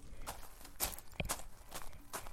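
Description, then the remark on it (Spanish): Footsteps crunch over small pebbles, five or six gritty, scraping steps at a steady walking pace with no voices, each crunch bright and rasping and fading quickly before the next. “Miren, estoy con las piedritas al lado. Escuchá.”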